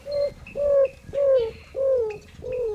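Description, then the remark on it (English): A roadrunner gives a cooing song in the dry, sunny desert southwest of the United States on a warm morning: about five low, hollow coos, each sliding slightly downward, delivered at a steady, unhurried pace over a faint background. “Have you ever heard a roadrunner sing? That's the maker of this cooing sound.”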